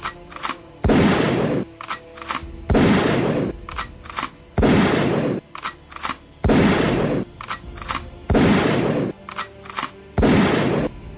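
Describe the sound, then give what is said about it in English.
Six loud, booming hunting rifle shots fire at a steady, evenly spaced pace, each a sharp heavy blast followed by a brief rumbling decay, with no voices. “How is it possible that six people could remain asleep while the others in their house were being shot with a loud and powerful hunting rifle?”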